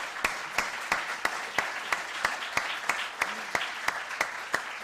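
A round of applause: a wash of steady clapping with one sharp, evenly paced clap cutting through about three times a second, sustained without pause and with no voices.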